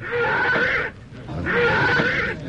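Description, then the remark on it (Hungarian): A spooked horse that has bolted and thrown its rider lets out two loud, shrill whinnies, each cry lasting nearly a second with a short pause between them, and no talking. “Jusuf lova megbokrosodott. Levetette gazdáját.”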